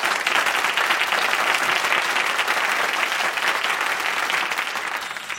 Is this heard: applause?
yes